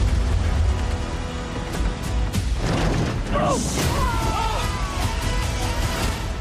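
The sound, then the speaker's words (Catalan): In a film scene, a Maserati and another car crash down from above onto a man who fell from a plane: a heavy crash with a deep rumbling impact, metallic clatter and a few swooshing screeches, loud and dense, with muffled voices mixed in. “Li cau un Maserati i un cotxe a sobre.”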